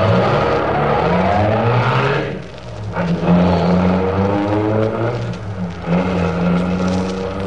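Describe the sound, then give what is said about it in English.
A getaway car's engine roars loudly and continuously as the driver steps on the gas, its pitch surging as it revs and accelerates, briefly easing off midway before climbing again. No voices are heard. “Shut your mouth and step on the gas. Step on it, I said.”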